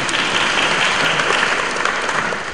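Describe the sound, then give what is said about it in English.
An audience breaks into steady, dense applause, a broad wash of many hands clapping at an even loudness throughout, with no voices standing out above it. “You don't want to clap.”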